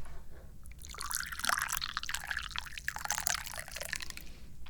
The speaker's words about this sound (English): I'm the chairman of the Dubious Goals Committee, and I'm probably most well known for my ability to pour tea.